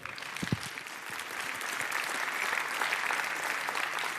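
Steady applause from a sizable audience welcoming a speaker onto the stage for a talk, dense clapping that builds slightly and holds for several seconds, with no voices over it.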